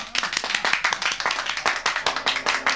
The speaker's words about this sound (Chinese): 好，我哋为溥仪先生鼓掌。